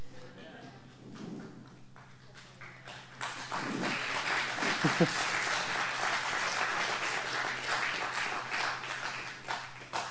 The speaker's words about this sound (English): I'll just be honest, I'm not looking for the courtesy clap.